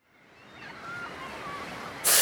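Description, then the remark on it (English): Steady rushing surf on a beach swells gradually, then a louder wave crashes in at the very end, with faint thin tones drifting above the washing noise. “On the beach.”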